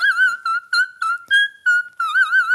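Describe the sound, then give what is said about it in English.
A singer's high, pure whistle-tone voice sings short gliding phrases with wobbly vibrato, imitating an eerie theremin. Clear and steady, with brief gaps between notes and no talking. “Well, it's called whistle tone, and it's something that I kind of discovered by accident and did for funnies”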